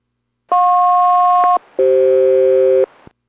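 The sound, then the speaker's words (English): An aircraft SELCAL chime during a radio check between the aircraft Boeing 480 and Boeing Everett: two steady, loud electronic two-tone bursts, each about a second long, separated by a brief pause, with the second chord pitched lower than the first. “Boeing Everett, Boeing 480, radio check, standing by for chimes, let's all call.”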